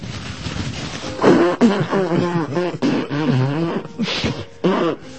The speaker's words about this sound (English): Why don't you go ahead and blow your nose now, because it's running and it's starting to... Hey, thanks.